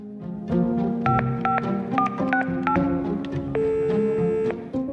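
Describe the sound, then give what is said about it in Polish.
A phone number being dialed as Rachel, in the presence of police officers, calls drug dealers to confirm a meeting: about six short, evenly spaced keypad beeps at shifting pitches, then one longer steady tone, heard over a low continuous hum. “Rachel w obecności policjantów zadzwoniła do dealerów i potwierdziła spotkanie w umówionym miejscu.”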